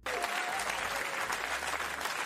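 A crowd applauds steadily, many hands clapping together in a dense, continuous wash of sound that holds an even loudness from start to finish, with no voices standing out.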